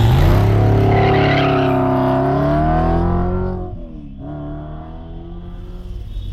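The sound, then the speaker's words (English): A car engine roars loudly at speed on the San Bernardino freeway heading west, its steady drone rising and falling in pitch with a brief dip partway through, then carrying on strong with no voices. “We're on the San Bernardino freeway heading west.”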